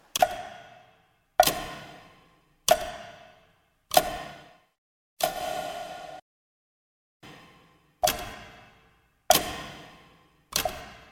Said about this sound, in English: And tick tock, tick tock.